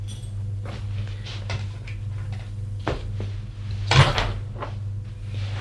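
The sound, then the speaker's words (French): A wooden cell door is handled as someone enters, giving a series of soft knocks and clunks and then one louder thud, all over a steady low hum with no voices. “Il entre. Il y a une porte en bois.”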